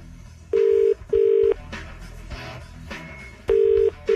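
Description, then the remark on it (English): Phone keypad tones beep loud as a number is redialed from a phone using the redial button: two steady beeps, a pause filled with faint background noise, then two more beeps in quick succession. “Ring him again?”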